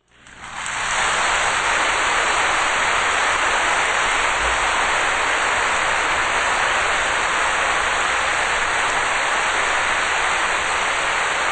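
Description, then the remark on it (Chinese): A large crowd breaks into loud, sustained applause welcoming a master to give a teaching. It swells up within the first second and then holds steady as a dense, even wash of clapping, with no voices heard. “让我们以热烈的掌声恭请师父为我们开示。”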